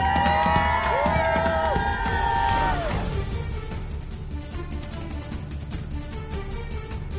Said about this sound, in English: We're part of the community. These, you know, people come out and support us on Sundays, and they love our culture, and there wouldn't be the New England Patriots without the fans. Everyone give a scream!